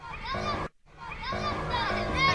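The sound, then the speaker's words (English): High, excited children's voices shouting and calling over one another outside in a continuous playful clamor, broken by one brief gap of quiet before the noisy chatter resumes. “No, those are the children outside. So I was going to say, there's either kids or cats squawking in the background.”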